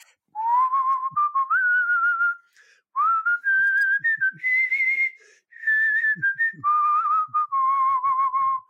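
A person whistles a song melody in three clear, sustained phrases separated by short pauses, the melody rising and falling steadily with no talking.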